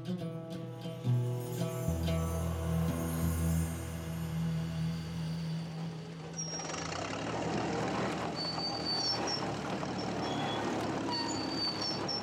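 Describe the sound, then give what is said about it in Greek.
A heavy truck's diesel engine rumbles steadily, then gives way to a long, loud hiss of air brakes with faint high squeals over a continuing rumble. The truck is worked on various routes in Greece. “Στην Ελλάδα δούλευε στο φορτηγό αυτό κάνοντας διάφορες διαδρομές.”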